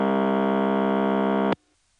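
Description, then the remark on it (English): A steady, buzzy telephone ringtone rich in harmonics, with a low pulsing hum of power ring underneath, holds for about a second and a half, then cuts off abruptly into near silence. “There's another case where you hear a power ring on Intercept, this time alongside the audible ringtone.”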